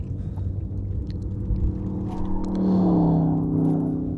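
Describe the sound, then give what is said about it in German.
A muffled emergency vehicle siren wails through the car's closed windows as the car gives way to it, a steady tone rising over a constant low engine rumble and road noise, growing louder toward the end. No one speaks. “Da müssen wir natürlich auch ausweichen, diesem Lalü-Lala-Auto da.”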